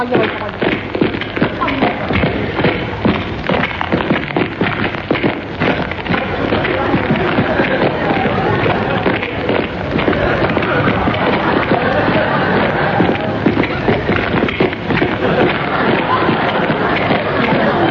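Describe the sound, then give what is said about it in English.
A dense, continuous patter of many footsteps from a gramophone record, shuffling and thudding steadily for the whole stretch, with a faint crowd murmur underneath and no pauses. “You can't stand here all day listening to a record of footsteps.”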